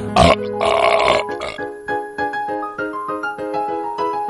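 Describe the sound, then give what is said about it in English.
A loud, raspy burp bursts out at the start, then a short upbeat musical stinger jingle with steady, rhythmic notes plays to the end, introducing a 'Drunks in the News' segment. “Oh, I just got exploded burp on me.”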